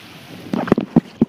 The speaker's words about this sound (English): Though the mic picks up its own movement, listen as this small skier hits the water and sails across.